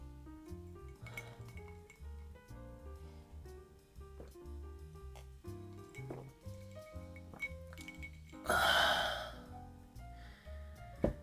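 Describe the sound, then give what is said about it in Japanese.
A bright clink of glasses touching in a toast at a bar, one short ringing burst that stands out over soft background music with a steady bass line. “それじゃあ乾杯。”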